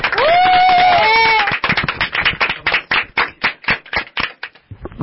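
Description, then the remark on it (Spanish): Loud applause welcomes a new member joining a radio show, opening with high, rising cheers or whistles over a dense wash of clapping, then thinning into scattered, uneven claps that gradually taper off. “Pero antes, quiero que le demos un fuerte aplauso a un nuevo integrante.”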